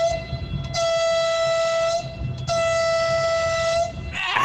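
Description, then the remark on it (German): Two long, loud blasts of a train horn, a steady multi-tone chord with a brief gap between them, over low rumbling background noise. “Jo, da kannst du die Hupe drücken”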